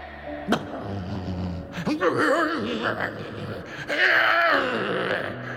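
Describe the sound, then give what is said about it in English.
A human voice imitates a polar bear's wail, producing loud, wavering moans and groans that rise and fall in pitch over several drawn-out bursts, with no clear words. “I think that's a polar bear.”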